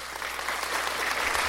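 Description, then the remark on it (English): A crowd of people applauding, dense steady clapping that fills the whole moment at an even, sustained level with no pauses. “let's give him a Morning Brew Christian Podcast Plant hand clap”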